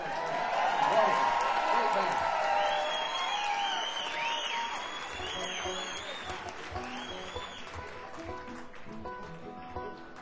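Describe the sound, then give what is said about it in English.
A live audience in Houston applauds a band steadily for about ten seconds, with whistles and scattered cheers rising over the dense clapping before it gradually thins out. “And another round of applause and appreciation for ….”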